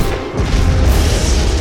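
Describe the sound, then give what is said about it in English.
Loud blaster cannon fire from the Varenian ship tears into a gunship, a dense roar of booming blasts and crashing impacts that swells after a brief dip and stays heavy throughout, with deep rumbling underneath. “Blaster cannon fire rips through the gunship.”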